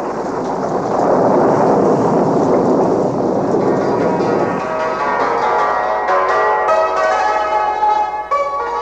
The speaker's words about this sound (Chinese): 哎，怎么突然下起大雷雨了？ 奇怪了，雨势怎么都往东边的林子里去？